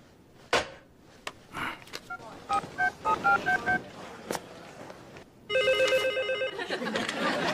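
A series of short dialing tones beep in quick succession among a few clicks, then a loud electronic telephone ring trills steadily for the last two seconds.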